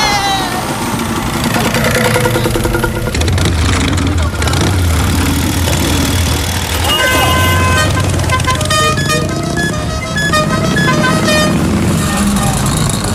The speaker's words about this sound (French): Non, moi je vais sur ma moto. Tu m'emmènes? Avec plaisir.